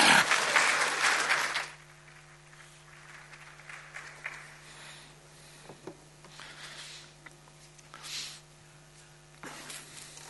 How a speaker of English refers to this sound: Oh, give her an applause.